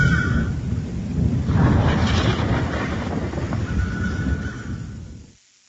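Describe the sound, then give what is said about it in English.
A loud, deep rumble of thunder from an approaching storm rolls steadily for several seconds, heavy, then cuts off abruptly into silence. No one speaks. “I think a storm's coming.”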